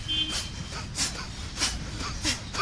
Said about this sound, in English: The teacher guides them as they listen carefully to sounds around them. They are asked to note the sounds they can hear and then to isolate one. Eventually, they pay attention to the sound of their own breathing.